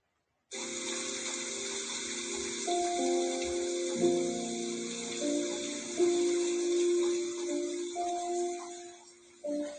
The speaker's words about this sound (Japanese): もうこちらサイトの方にも上げさせていただきました、ピアノと雨の音第6弾ということです。